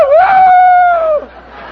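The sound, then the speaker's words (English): A person imitates a rooster's crow with one loud, drawn-out cry that rises, holds steady, then drops off, followed by a brief quiet tail. “The rooster, the one I just did.”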